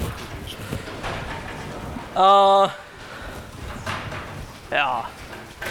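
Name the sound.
door being closed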